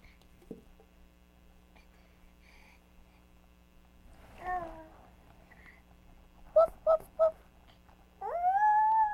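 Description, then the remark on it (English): A dog gives a wavering whine, then three quick yelps, then breaks into a rising, sustained howl at the end. No one is talking, and a steady low electrical hum runs underneath. “Is that the sound dogs make?”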